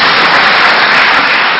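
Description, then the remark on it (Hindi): Loud, sustained audience applause as the gathering claps for its transformation at the speaker's call, a dense continuous wash of many hands clapping at once with no individual claps standing out and no voices over it. “हाँ भाई, सभी नहीं, जोरदार तालियां बजाई।”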